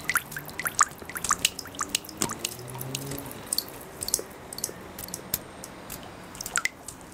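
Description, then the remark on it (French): Water drips steadily into a sink, a quick string of small plinking drops with a faint wet splash after each, fairly quiet, with no voices. “Ou alors même le bruit répétitif d'une goutte d'eau dans un évier, on a tous vécu ça, c'est quelque chose qui peut faire devenir fou.”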